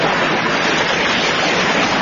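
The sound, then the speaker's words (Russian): The Katun River rushing and churning over stones, a loud, steady roar of water that holds constant throughout, with no voices or other sounds on top. “Шумит, кипит в камнях река, слушает Пашку, понимает и несется дальше.”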